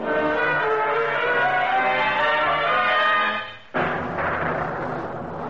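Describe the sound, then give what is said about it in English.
Deep thunder rumbles steadily for several seconds, briefly dies away, then a fresh loud peal breaks in and rolls on to the end, with no voices; heard in a narrow gully under a cloudless sky. “From the sound of thunder, I expected at any moment to feel a large raindrop hit the end of my nose.”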